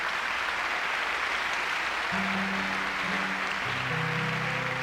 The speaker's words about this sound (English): I'd like to also thank the sound crew who do a spectacular job of these concerts. Give them a big hand of applause. Yeah, man.